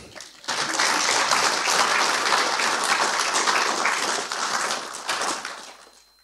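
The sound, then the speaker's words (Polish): An audience at an award ceremony applauds as the first-prize winner of the Władysław Pobuk-Malinowski competition is invited on stage, with dense, steady clapping that starts abruptly, holds strong for about five seconds, then tapers off and fades out. “A państwo biją brawo.”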